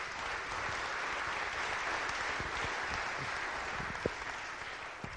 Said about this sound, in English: So we have a really great group of people here. So I want you to give them all a round of applause before we start.